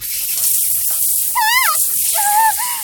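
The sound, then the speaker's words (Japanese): A shower sprays steadily at a person with a close, constant hiss of water, while two brief high-pitched vocal squeals rise and fall over the rushing spray. “なんでシャワーかけるのよ。”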